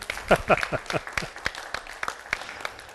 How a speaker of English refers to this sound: Stand up and give the Lord a shout and hand clap. Hallelujah.